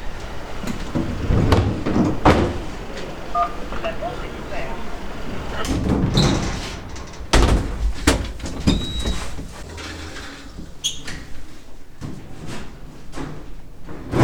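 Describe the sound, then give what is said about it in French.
A heavy building door clunks and rattles open after workers of the firm Elise announce themselves at the intercom to go up. There are several sharp knocks and scrapes of the latch and frame, over a busy background of muffled voices and street noise. “Donc là, on se présente à l'interphone pour qu'ils puissent nous ouvrir la porte pour monter.”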